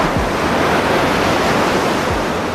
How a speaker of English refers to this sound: face to face on the edge of a cliff, on the edge of an island. The ocean roared.